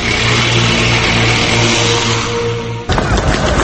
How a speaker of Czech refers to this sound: na delu autoputa Bratstvo jedinstvo kroz Beograd uočen je veći pokret oklopno-transportnih jedinica Jugoslavenske narodne armije